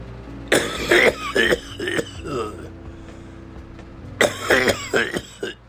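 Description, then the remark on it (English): Harsh, raspy coughing in two fits: several rough bursts, a quiet pause of over a second, then another loud cluster of hacking coughs with some throaty clearing. “Damn, almost sound like my grandfather coughing like that.”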